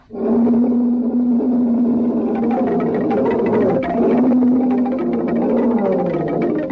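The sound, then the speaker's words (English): A charging lion's coughing grunt and roar as it rushes through grass, loud, rumbling continuously for several seconds with a steady deep tone and rough, growling texture, with no one speaking over it. “Macomba heard the coughing grunt, saw the swishing rush in the grass, and the wild roaring seemed to enfold him.”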